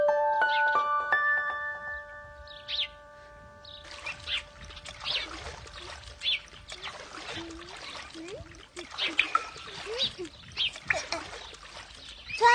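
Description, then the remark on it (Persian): A few bright chiming tones ring at the start, then water splashes and sloshes in irregular bursts for several seconds as someone plays with water, with faint voices in the background. “داره با من آب بازی میکنی؟”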